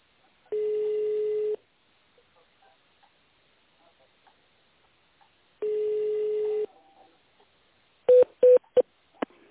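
Two long, steady phone ringing tones, then a quick burst of about four short keypad beeps as an extension is dialed on a call to the company Nika's phone line. No voices are heard.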